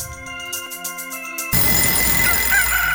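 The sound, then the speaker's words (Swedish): A bell rings with repeated metallic strikes and long sustained tones, then gives way to a noisy outdoor scene where a rooster crows faintly. “Ja, där ringer klockan och tuppen galor”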